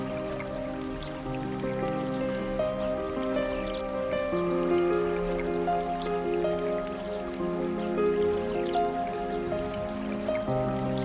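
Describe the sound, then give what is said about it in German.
A small babbling brook trickles and gurgles steadily throughout, with soft sustained musical tones humming underneath; no one speaks. “Die Sonnenstrahlen scheinen zärtlich durch das Dickicht der Bäume und werfen ein wunderbares Licht auf den kleinen Bach.”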